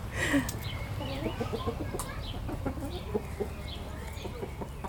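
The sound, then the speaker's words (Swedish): A Swedish flower hen rooster and mixed-breed hens cluck and murmur softly in a park in Kristianstad, Sweden, several short calls scattered over a steady outdoor background, with a brief sharper squawk near the start. “Tuppen är ju, det vill säga för blomster, höns, blomstertupp. Hönorna är blandras faktiskt från vår tidigare hönsgård.”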